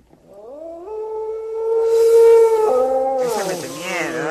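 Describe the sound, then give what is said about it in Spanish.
A single long dog howl rises gradually and holds a wavering, mournful pitch for several seconds, growing louder and breathier toward the end, with no other sounds around it. “Falta el aullido, ¿no?”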